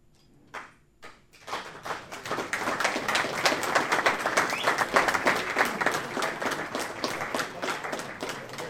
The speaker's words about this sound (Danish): Det passer faktisk også rigtig godt med den klapsalve der, fordi nu er noget til afslutningen.